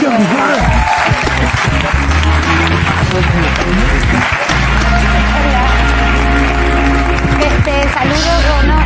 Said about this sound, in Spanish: Un aplauso para él.